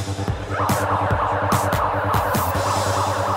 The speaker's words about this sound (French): Nos étudiants sont prêts ? Nous allons pouvoir déclencher l'alarme.